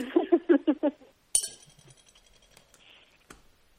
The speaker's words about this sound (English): I just poured myself a glass of orange juice.